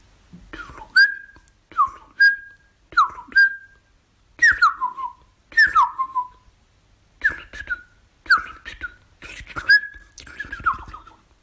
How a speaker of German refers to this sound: Tschüss, sagt die Singdrossel.